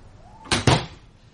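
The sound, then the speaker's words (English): A key turns with a sharp metallic clunk, then a second heavier thud as the door swings open, both fairly loud, with no talking. “Have I got the right key? Let me have a go.”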